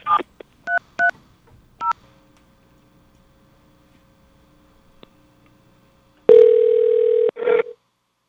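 A handful of quick touch-tone dialing beeps as an 800 number to Sprint Nextel Corporate Security is dialed, followed by a faint, steady dial-type tone that holds for several seconds, then a loud, buzzy telephone tone bursts in near the end.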